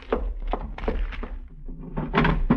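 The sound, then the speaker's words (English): A cardboard box, a small package on a desk in a cabin, is handled and quickly shut, with a series of dull thumps and soft rustling knocks at irregular intervals over a low steady hum, ending in a louder cluster of bumps. “You're examining the contents of the package when quickly you close the box.”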